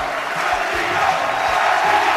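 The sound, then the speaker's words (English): A large golf crowd yells and cheers for Sergio Garcia, who needs two putts to take the title, in a dense, steady roar that stays loud and unbroken for the whole stretch, with no single voice standing out. “They're yelling Sergio.”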